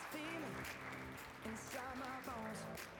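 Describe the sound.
A crowd claps steadily in a dense, continuous patter, with raised voices calling and cheering over the applause throughout, as people give a hand clap of praise to God one morning.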